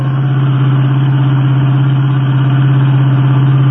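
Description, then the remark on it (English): A car engine drones steadily and loudly during a car chase, a low rumbling hum that holds constant throughout with no voices. “And did you notice that it got louder just as that wine-colored Royal Coupe ahead passed us? Say, that's the car that was stolen from us. Well, it's not getting away from us again.”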